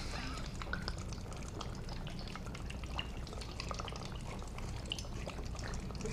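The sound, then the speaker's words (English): Cold drinking water pours steadily for several seconds during a toast, a continuous splashing trickle with small drips and gurgles throughout, and no one speaking. “That's some refreshing water.”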